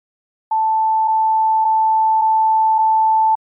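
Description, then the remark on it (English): A recorder's low-battery warning tone as its brand-new Panasonic batteries run low after five minutes: one steady, high electronic beep held for about three seconds, with faint regular pulses in it, loud with nothing else around it. “The batteries just went off and they're now saying they're low.”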